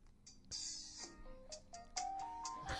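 A phone ringtone plays the theme from the TV show Taxi, a gentle melody of sustained, stepping notes, at modest volume with no voices over it; the phone is held up to a microphone.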